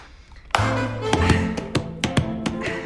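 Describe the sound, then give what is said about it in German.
Rhythmic slaps on thighs alternate with hand claps, about eight sharp, fairly loud hits in a steady pattern, layered over a sustained low humming tone, with no talking. In the film Ich war noch niemals in New York, Lisa sits on a table, slaps her thighs and claps her hands, and Axel copies her. “Lisa setzt sich auf einen Tisch, klatscht auf ihre Oberschenkel und in die Hände.”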